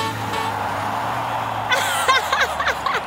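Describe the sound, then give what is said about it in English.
Monster truck engines rumble steadily and loudly as the trucks drive in the dirt, then rise into whining, revving bursts in the second half, with a constant low drone throughout. “Oh, monster trucks in the dirt. Roaring so loud, we're having fun over here.”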